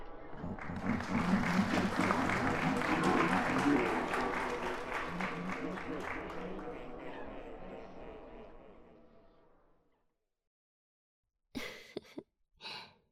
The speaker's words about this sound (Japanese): 拍手大喝采ですわ。